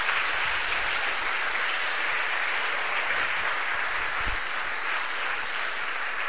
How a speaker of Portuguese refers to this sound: Aplauda o Senhor aí, em nome de Jesus.